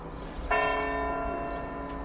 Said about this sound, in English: set that besides bells ringing in Portugal that Pedro Sousa has contributed